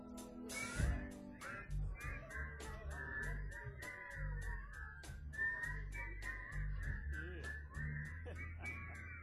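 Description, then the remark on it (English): A person whistles a long, wavering tune that slides up and down in pitch, accompanied by steady rhythmic clicking and a low background rumble. “I wonder if you can whistle.”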